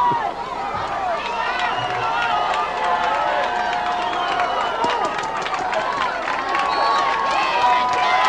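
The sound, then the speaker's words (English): A large crowd of Demons fans at a football game, on their feet cheering on the defense on third and five, roars steadily for the whole stretch, a dense wall of voices with whistles and shouts rising out of the noise, loud and unbroken. “Demons fans on their feet cheering on the defense here.”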